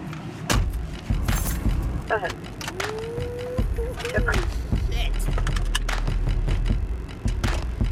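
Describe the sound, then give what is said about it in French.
Someone climbs into a police car, a Ford Crown Victoria modified with police equipment: keys jangle, a door thumps and rustling movement fills the cabin, with a brief squeaky whine in the middle. “All right, je monte dans la voiture.”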